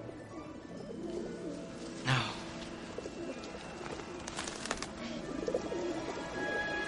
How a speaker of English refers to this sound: Will those pigeons come back on their own, or do you have to call them?